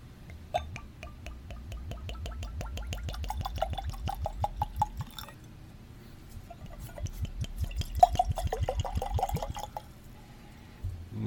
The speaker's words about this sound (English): Well, let's pour us up a little